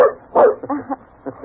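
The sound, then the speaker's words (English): The dog Tippy barks several times in quick, uneven succession, short sharp yaps, fairly loud, with brief pauses between them and no talking. “My flesh grew cold when he spoke of her, for it was the dog Tippy that led the way to her, there in that ghostly place made remote to us by a wall of time.”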